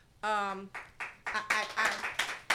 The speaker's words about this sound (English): It makes me applaud him.